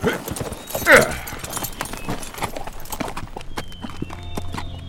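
Horse hooves clip-clop in a steady stream of crisp knocks, with a brief louder burst near the start before the hoofbeats settle into a continuous walking rhythm.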